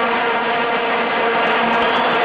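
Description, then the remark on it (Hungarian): A loud, unbroken drone of many vuvuzela horns blown by fans at World Cup matches in South African stadiums, a dense buzzing swarm of low, brassy tones that holds steady without pause and with no voices. “Vuvuzela.”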